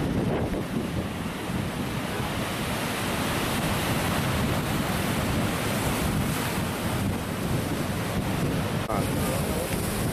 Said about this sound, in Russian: Очень вдохновляющая картина, вот эти волны, как их океан гонит. Смотрите, красота какая.